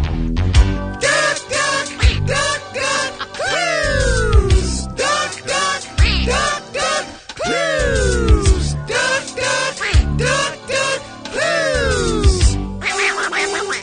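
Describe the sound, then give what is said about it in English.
A loud, busy novelty jingle introducing a new game segment about guessing famous ducks plays for about fourteen seconds, packed with bouncy rhythmic hits and repeated swooping, quack-like sliding tones, with no one talking over it. “Don't have, but we don't have a theme song, unfortunately. Let's hear it.”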